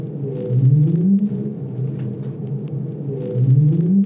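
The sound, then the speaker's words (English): A right whale's upsweep contact call sounds twice: low, rising tonal whoops about three seconds apart, each climbing in pitch over roughly a second against a steady low rumbling background. “This is a right whale sound. So right whales make an upsweep.”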